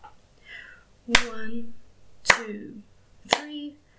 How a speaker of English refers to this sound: You're ready to come back up for the final time? I'm going to count you up along with the claps to make sure that you are properly awake this time. We're going to go 1 to 5. You ready?